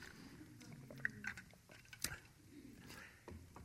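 Someone quietly sips water from a huge purple cup, with soft wet mouth sounds, a couple of small clicks and swallows spread over a few seconds, no one talking.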